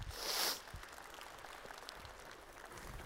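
An audience applauds two guests being brought up to join the speaker, opening with a loud swell of clapping that settles into steady, dense crackling applause for the rest of the few seconds, with no voices over it.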